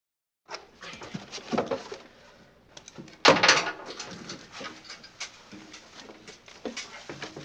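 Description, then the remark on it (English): A door in an apartment building is forced open: one loud crash about halfway through, surrounded by softer scuffling, thuds and movement noises. “Let's break down this door.”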